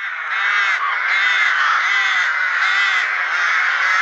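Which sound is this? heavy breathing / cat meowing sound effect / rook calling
rook calling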